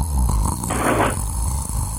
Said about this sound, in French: Oui, c'est un aspirateur. Je ne sais pas, enfin bon, c'était un bruit bizarre.